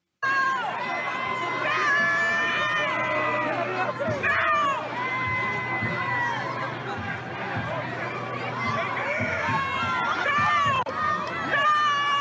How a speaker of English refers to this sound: here are some of the protesters shouting F the police